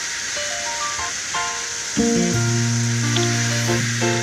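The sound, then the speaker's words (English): A can of Bush Latte beer pops open with a sharp crack about midway, followed by a steady fizzing hiss, while a soft electronic tune plays with stepping tones throughout. “So let's crack open our brews.”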